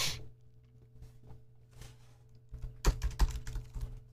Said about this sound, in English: Sorry, guys, my typing is not so good at the moment.